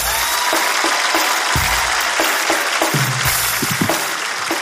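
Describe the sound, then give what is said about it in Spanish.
An audience on the show Tengo Algo Que Decirte claps steadily in a dense, sustained burst of applause, loud and continuous for several seconds with no talking over it. “Un fuerte aplauso.”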